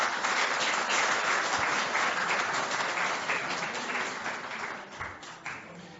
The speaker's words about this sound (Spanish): Bueno, un aplauso a este equipo.